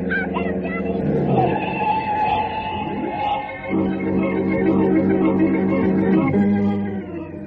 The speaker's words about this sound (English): Jane had to grab little 11-year-old Leonard Chopra out of the path of a speeding car